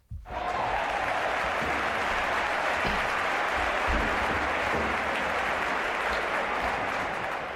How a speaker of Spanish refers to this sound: ahora la primera ovación de la semana.